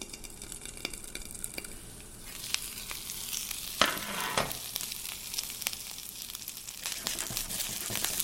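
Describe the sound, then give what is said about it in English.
Steady crackling sizzle of a little water added to hot oil and immediately covered, making steam: a dense hiss with scattered sharp pops, swelling in a sudden louder burst around the middle before settling back into a continuous fizz. No voices. “And so now the steam, so as the water is mixing with the oil, it's creating this really hot steam bath, and it's going to slowly evaporate.”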